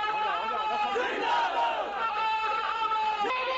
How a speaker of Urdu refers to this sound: ان کی آمد پر جلسہ گاہ نعروں سے گونجنے لگتی ہے.